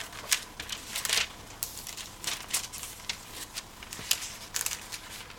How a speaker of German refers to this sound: So, jetzt muss ich ein bisschen blättern hier in der Bibel, die habe ich nämlich nicht immer dabei.